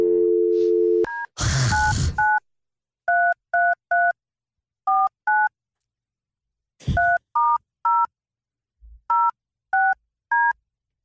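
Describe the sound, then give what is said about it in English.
A steady dial tone, then a rustling burst and a run of paired keypad beeps tapped out in quick clusters, a pause with another rustle, and a second string of touch-tone beeps, as a phone call is dialed to Tiny Trains in Galway City. “All right, we are calling Tiny Trains in Galway City.”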